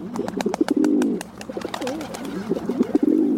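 rock pigeon cooing

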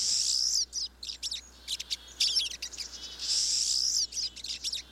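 siskin calls

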